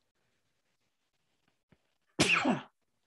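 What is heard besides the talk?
sneeze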